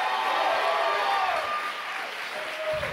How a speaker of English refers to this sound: Go ahead, take 15 more seconds. Clap your hands. Give the Lord a mighty, mighty shout.